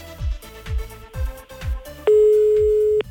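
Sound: telephone tone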